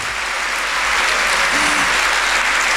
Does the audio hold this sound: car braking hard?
no